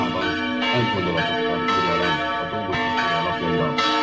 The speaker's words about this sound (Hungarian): Kettős ünnepre hívta a madéfalvi templom harangja a helyieket és meghívottjaikat vasárnap, ugyanis Jézus szíve búcsút ünnepeltek, de az ünnepen megáldották a felújított templomot és orgonát.